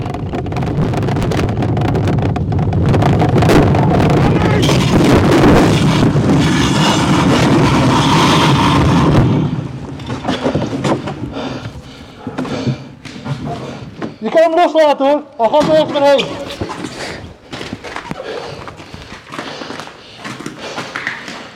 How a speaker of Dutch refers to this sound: Aan het einde van de eerste afdaling, de bob schiet door op de uitloop van de baan.